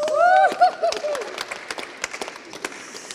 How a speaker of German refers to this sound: Heute war sie besonders gefordert, da brauchen wir noch einen extra Applaus.